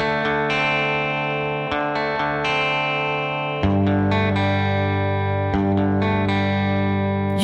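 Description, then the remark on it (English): Heavily distorted electric guitar chords ring out in a loud, sustained rock intro of a band's brand new single, with a thicker, fuller chord change around the midpoint and no voices. “This is their brand new single.”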